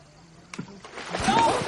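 A phone is knocked into a pool and drops in with a short splash, followed by a few seconds of sloshing and churning water, growing slightly louder toward the end.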